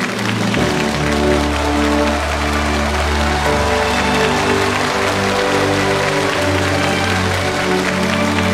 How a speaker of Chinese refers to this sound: 让我们掌声欢迎郭校长。